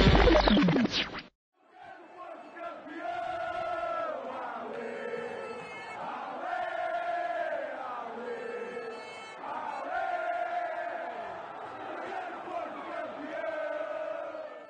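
A large crowd of football fans chants a rallying cry in unison, loud repeated phrases rising and falling in a steady rhythm, after a brief burst of harsh noise at the start.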